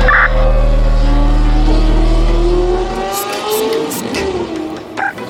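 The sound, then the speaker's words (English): A powerful Lamborghini truck engine revs hard, its pitch climbing through several gear-like surges before the deep rumble drops away as the vehicle speeds off, with brief hissing bursts of tires. “In this class one, it's okay to cry, escape from the underground in the 2080 Lamborghini truck.”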